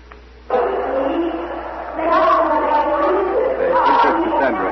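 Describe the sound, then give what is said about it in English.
A dense crowd murmur swells in abruptly and grows louder partway through, many overlapping voices blending into a steady, bustling roar of a large crowd of citizens carrying torches, gathering outdoors in the main market square of Troy. “Big crowd growing every minute. It seems as if every citizen of Troy is coming into this market square carrying torches.”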